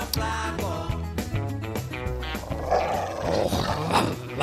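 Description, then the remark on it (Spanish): A dog growls and barks loudly, with harsh rumbling snarls broken by sharp, repeated barks throughout, sounding agitated and continuous with no clear pauses. “Oye, pues un beso a todos los dueños, mira, a los perros. Mira, ese está sano, ¿eh?”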